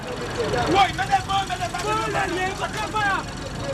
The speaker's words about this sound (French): Carrefour Bac à la sortie de Jérémie. C'est d'ici que partent les bus couverts d'inscriptions religieuses hautes en couleur en direction de Port-au-Prince.